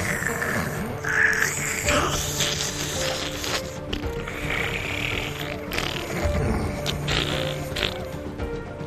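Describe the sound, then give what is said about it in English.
A voice imitates heavy nose breathing into a microphone: a harsh, rasping, creaky rush of air that runs steadily for about nine seconds, broken by small clicks and crackles, with no words. “where the microphones themselves are installed up the host's nose, and the nose breathing is like...”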